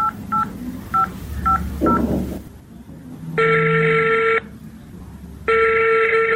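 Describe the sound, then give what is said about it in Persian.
A mobile phone being dialed: five quick evenly spaced keypad beeps, then two long, loud, buzzy ringing tones with pauses between, with no talking. “دخترم من از خیلی کنم موبایلم که به مامای زنگ بزنم.”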